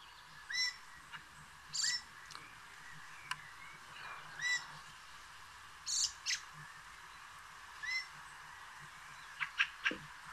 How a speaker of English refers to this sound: All right. And the bird is... Fieldfare.